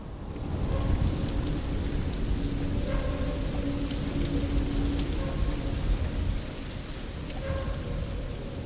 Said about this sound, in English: Water drips constantly onto the concrete floor.